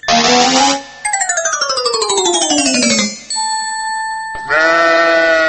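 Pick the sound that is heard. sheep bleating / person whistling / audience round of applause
sheep bleating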